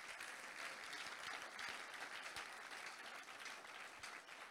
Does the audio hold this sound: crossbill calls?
no